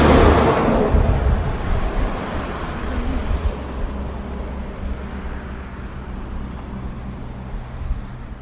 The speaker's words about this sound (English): Hopefully there'll be a place on the on-ramp, a little shoulder on the on-ramp where a motorist can pull over and they give me a ride if they so choose to stop. First I gotta get there. Trucks, cars, cars, trucks. No crosswalk.